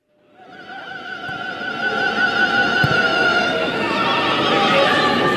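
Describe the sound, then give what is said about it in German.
A football fan holds a long, wavering falsetto shout, high and quivering for several seconds, over a steady roar of crowd noise that swells at the start, at a women's football match in Essen against SV Meppen with 2,000 to 2,500 spectators. “Jetzt ist es soweit, der SV Meppen war der Gegner und der …, er war auch wieder vor Ort.”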